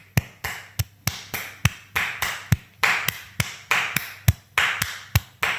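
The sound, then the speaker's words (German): Hands clap a steady, lilting Viennese waltz rhythm in threes, about three claps per second. Some claps land harder than others, with no voices between them. “Dann klatschen wir mal einen Wiener Tanzer. Wiener Walzer.”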